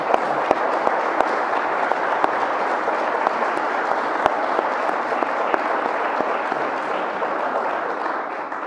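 An audience applauds steadily for nearly nine seconds, many hands clapping in a dense, even wash of sound with a few sharper individual claps popping out. No one speaks.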